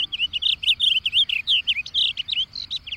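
A bird chirps in a rapid, continuous series of bright, high-pitched notes, loud and steady, with no voices present.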